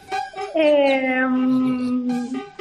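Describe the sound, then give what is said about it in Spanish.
A dog howls in protest, one long, loud howl with its pitch sliding slowly downward before trailing off, with a few shorter yelps just before and after. “No debería, porque seguro que hay otros perritos cerca. Claro, tiene todo el sentido, porque claro, las carreras no son de mixta. Ahí le vemos protestar.”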